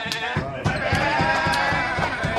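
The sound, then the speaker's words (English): Lakers basketball players loudly imitate goat bleats, wavering, nasal cries that overlap in a rowdy, continuous burst against a busy background, with quick rhythmic pulses running underneath. “It's way less baggy than the Lakers making goat sounds at the bag.”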